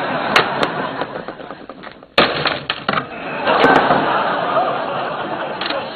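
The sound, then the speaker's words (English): A banana flash-frozen in liquid nitrogen being smashed: several sharp, brittle cracks, a loud shattering hit midway, then more crisp snaps over a crunchy, crumbling rattle. “Why are you smashing a flash frozen banana?”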